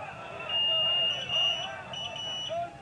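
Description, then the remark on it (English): A patient's IV pump alarm in a hospital room sounds a couple of long, high-pitched electronic beeps with a short gap between them, steady, over a faint hum of background voices. “I am in hell with all this goddamn beeping. My IVs.”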